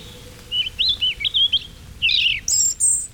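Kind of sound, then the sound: bird, birds chirping and singing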